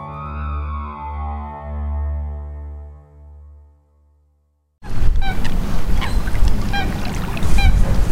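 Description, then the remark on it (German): A low, sustained electronic tone fades into a brief silence, then loud, steady whistling wind and rain noise fills the shore of Lake Constance (Bodensee) at Konstanz, with repeated sharp honking and chirping bird calls throughout. “Der Wind pfeift, es regnet.”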